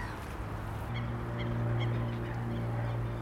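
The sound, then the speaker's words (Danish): Repeated honking bird calls, a few seconds of goose-like cries sounding at a steady pace over a continuous low hum, moderately loud and with no talking. “Fugle er måske det allermest klassiske eksempel.”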